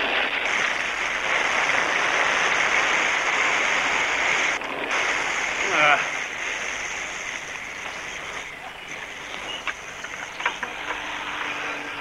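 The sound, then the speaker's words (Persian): Water sprays steadily from a hose under a car to put out a fire, in a loud, continuous hiss and rush that shifts slightly in intensity, with faint knocks and splashes near the end. “لوله ای آبا بیاری بری زیرو ماشین. نگاه کن.”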